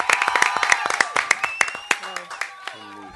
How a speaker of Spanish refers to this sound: Ese es …. Un aplauso para él.